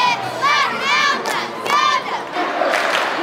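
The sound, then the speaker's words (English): At night in Quincy, Illinois, hundreds of people cheer and yell for the home team at a football game, with loud rising and falling whoops in several surges over a constant roar of voices. “And hundreds have come out for the home team.”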